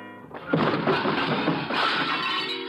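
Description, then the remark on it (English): A loud crash of dishes and crockery smashing as a serving cart loaded with dishes is shoved into a wall, with a burst of clattering and shattering that keeps rattling and tumbling for a couple of seconds, with no voices. “Then my elbow bunched an object beside me, a serving cart loaded with dishes. I push it a few inches. The wheels don't make any noise. I give it a shove towards the wall and wait.”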